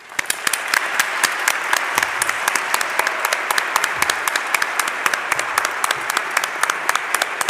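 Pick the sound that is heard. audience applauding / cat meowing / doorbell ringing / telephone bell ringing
audience applauding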